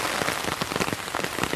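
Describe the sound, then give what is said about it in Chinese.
Steady rain patters onto hard surfaces during an early morning run beside a hiking trail, a dense wash of hiss broken by scattered sharper drops, continuous and fairly loud with no voices. “这边有一条登山道，不能登山，因为是下雨天。”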